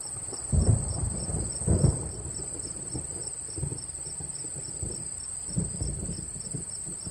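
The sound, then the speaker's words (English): Steady rain hisses down while low thunder rumbles roll in a few times, and a constant high insect trill buzzes throughout. Nobody speaks. “I thought you said it wasn't going to rain. Look at it. We are going to get soaked.”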